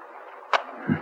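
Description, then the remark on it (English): A window shutter is opened with a sharp wooden clack and then a dull, low thump a moment later, over a faint steady hiss. “The shutter's closed, so...”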